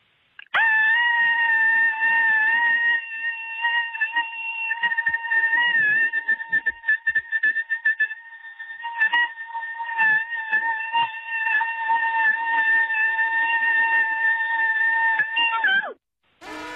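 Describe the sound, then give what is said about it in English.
A woman lets out one long, sustained cabin fever scream, holding a loud, steady high pitch for about fifteen seconds with slight wavers before it stops abruptly. “And if it doesn't warm up soon, I am going to scream.”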